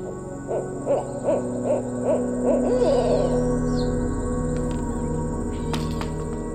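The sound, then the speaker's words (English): An owl visiting a yard in the evening as it gets dark gives a quick run of about six soft, rhythmic hoots, then falls quiet, leaving a steady background hum with a few faint clicks. “I would say that it sounds probably crazy to suggest that an owl was visiting me.”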